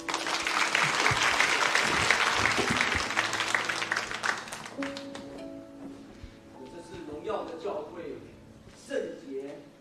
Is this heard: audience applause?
yes